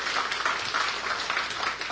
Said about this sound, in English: Dude, I never get applause, but look at you.